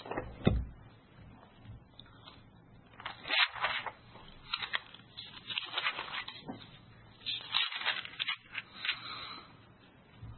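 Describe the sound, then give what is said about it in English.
Thin Bible pages being turned to Revelation chapter 13, a series of crisp papery flips and rustles at an irregular pace, some brief and sharp, others longer swishes, with no talking. “Now, John describes this beast in Revelation chapter 13. Let's turn there.”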